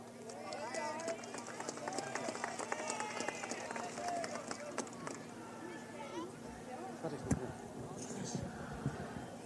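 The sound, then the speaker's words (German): A large crowd whistles and shouts together in protest during speeches at a public meeting, a dense, continuous din, shrill tones rising over loud babble for the whole stretch, with sharp bursts near the end. “Es bringt nichts, wenn wir jede Rede hier mit einem stundenlangen Pfeifkonzert begleiten.”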